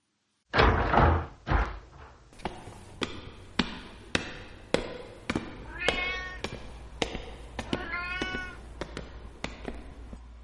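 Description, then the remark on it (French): A pet cat meows a couple of times, drawn-out, over a steady series of sharp thuds and knocks, like footsteps on stairs or a door banging, with no one speaking. “Et puis moi, bah, je vais retourner chercher mon chat.”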